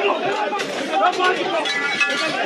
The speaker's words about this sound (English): We could see footage that was shared by his supporters that showed paramilitary forces in khaki smashing a courthouse window to reach him. And we might have some of that ambi now. Let's listen.